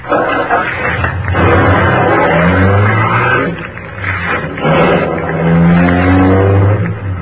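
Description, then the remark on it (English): The engine of an official MVD limousine turns over on the starter and revs loudly, its droning pitch rising and falling as the car pulls away, steady for several seconds. “The ignition keys were there. I got in quickly, just on the starter.”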